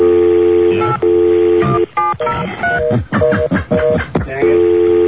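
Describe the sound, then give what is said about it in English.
A steady telephone dial tone gives way to a quick run of keypad tones, several short beeps pressed in rapid succession, before the dial tone hums back. Thin, phone-line quality, with no voices. “Are you calling your cell phone?”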